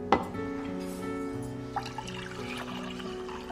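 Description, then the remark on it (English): A mug clinks down on a hard counter, then coffee pours into it in a steady stream lasting a few seconds, its tone gradually rising as the cup fills. No one speaks. “places a mug on the counter and pours coffee.”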